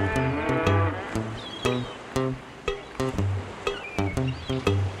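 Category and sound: animal, cow mooing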